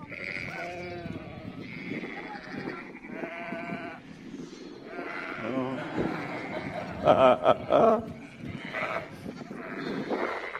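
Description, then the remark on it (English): A flock of sheep bleats continuously, many wavering cries overlapping into a dense chorus, with a few louder bleats standing out near the end. “Also known as the child whisperer, that can stop a screaming toddler at 2 paces, stops a herd of sheep.”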